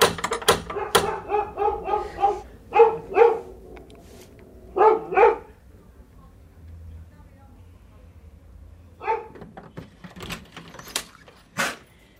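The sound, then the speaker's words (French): A female dog barks in several sharp bursts, with pauses between them, after a few quick knocks on a small blue door; a couple of people's voices come in toward the end. “Est-ce que ma chienne a envoyé parce que vous avez frappé à la porte, je pense.”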